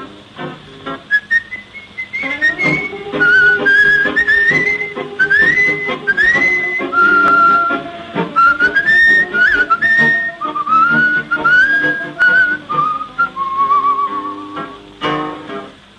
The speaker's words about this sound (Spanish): y un reo meditabundo va silbando esta canción.